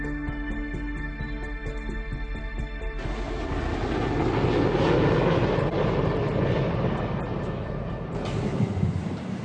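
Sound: airplane noise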